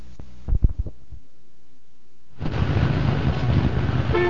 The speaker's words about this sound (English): Well, here we are again, 7:30 in the morning and sitting in another traffic jam.